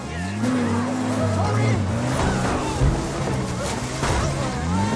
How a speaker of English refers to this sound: A man steers the Jeep off the road into a field of sugarcane. They bounce through the field, their view obscured by the stalks.